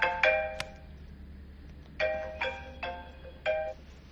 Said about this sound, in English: Sorry about that. I got to shut this off, my phone. I don't know why that keeps going, even if I shut the thing off.